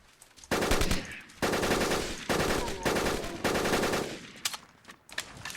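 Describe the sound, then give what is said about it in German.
Rapid bursts of automatic fire from an AR-15 rifle in a video game, several loud sustained volleys separated by brief pauses, with a few scattered single shots trailing off at the end. “Okay, ich nehme eine andere Knarre. Die AR-15 ist da doch besser geeignet.”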